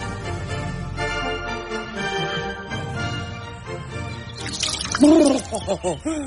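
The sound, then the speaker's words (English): Music plays for several seconds, then gives way to lively splashing of freezing water as Mr. Finchley washes near the end, with a few short vocal sounds over the splashes. “Oh, this water's freezing.”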